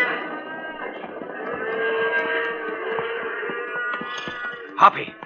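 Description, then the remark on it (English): A herd of cattle lowing together, overlapping drawn-out moos forming a steady, dense bellowing chorus, with one louder call breaking through near the end. “Nothing will stop these critters now. Right. Let's veer off to the edge of the herd.”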